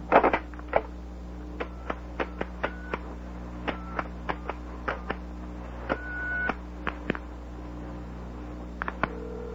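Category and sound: household object, telephone number being dialed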